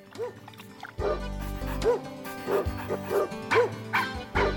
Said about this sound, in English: Ooh, hear those dogs? They're paying attention.